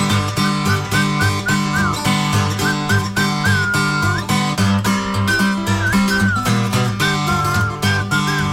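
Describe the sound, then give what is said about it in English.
A person whistles for Frankie, a wavering, repeated tune over a full band backing with a steady beat, the whistle clear and fairly loud, rising and dipping in short phrases throughout. “Didn't seem to pay me no mind until I remember what Papa said. Must whistle for you.”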